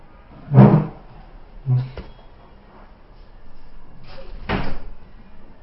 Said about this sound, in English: close the door.